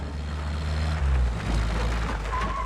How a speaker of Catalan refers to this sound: A la base aèria, un jeep arriba a l'entrada i s'atura.